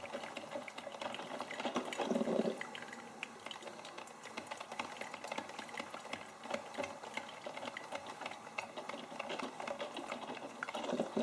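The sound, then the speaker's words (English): A coffee maker heats its water with a steady bed of fine crackling and ticking, broken by a couple of low gurgling bursts, fairly quiet, with no voices. “The sound of the water slowly being heated.”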